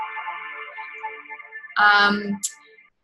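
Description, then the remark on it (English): Gentle piano melody plays from a phone's morning wake-up alarm, thin and steady tones held at moderate volume, then a short, louder burst of sound cuts in near the end before everything falls silent. “So I wake up to that and then my phone says, Good Morning Beautiful.”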